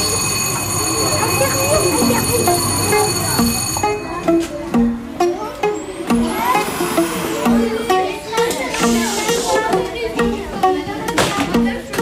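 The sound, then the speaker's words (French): Paris Métro ambience at Châtelet station, with a train's steady mechanical hum and a rising electric whine, layered with indistinct crowd voices and echoing clatter throughout. “Métro Châtelet, tu es à l'ouest.”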